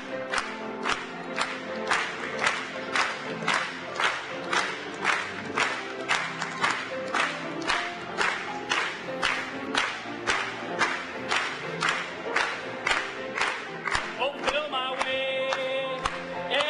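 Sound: audience clapping and cheering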